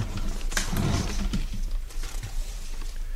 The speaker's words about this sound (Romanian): Ce e asta? Un câine. Murle îngrozitor. Ți se pare? Am mai auzit un urlet de ăsta undeva, dar nu mai țin minte unde.